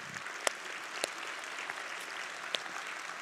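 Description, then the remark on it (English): Steady audience applause, a dense patter of many hands clapping at an even level, with a few sharper, louder claps standing out from the wash. No one speaks. “I love, yeah, you could clap for that.”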